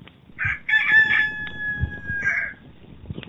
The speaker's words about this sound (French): À cet instant, un cri retentit dans la lueur du matin. Le chant d'un coq.